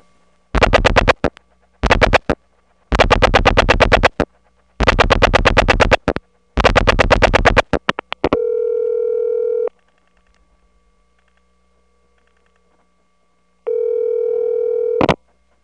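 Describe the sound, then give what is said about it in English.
Telephone ringback tone on a call to a supervision test over a pristine analog wire cable trunk, heard twice as steady, clean hums about a second long, separated by a four-second silence. A string of harsh, crackly buzzing bursts comes before them on the line. “This call is to the supervision test, and notice the pristine ringtone, something you don't hear nowadays.”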